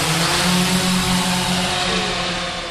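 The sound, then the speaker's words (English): A quadcopter drone with four helicopter blades and four spindly legs hovers overhead in a warehouse with a loud, steady whirring buzz, its motors holding a low droning hum layered with faint higher tones throughout, and no voices. “The drone passes over our heads, creating a little breeze and hovering in midair like a bird in the wind.”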